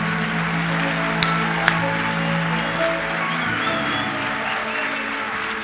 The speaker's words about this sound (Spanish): si ese es el aplauso que le va a dar.